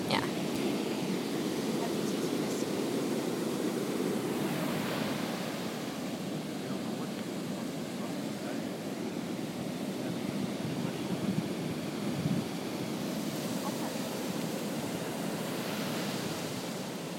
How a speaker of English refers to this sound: The waves are really rough, which is going to be fun for me to go out into.